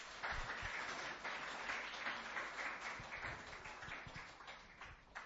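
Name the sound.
audience applause welcoming speaker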